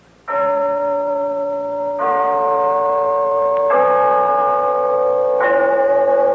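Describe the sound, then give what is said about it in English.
The clock bell of Glen Falls Town Hall chimes four loud, evenly spaced strokes, each rich and ringing with long sustained overtones that overlap as the next stroke lands. No one speaks. “Yes, there's the clock in Glen Falls Town Hall telling us it's time for Renzo's story of Big Sister”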